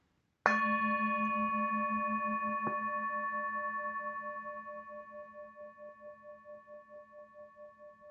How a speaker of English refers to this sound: Listening to the bell, my mind calms, my body relaxes.